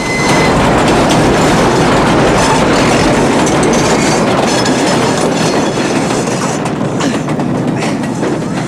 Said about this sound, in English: keep a grip on the bar as the train rattles and shakes the whole bridge.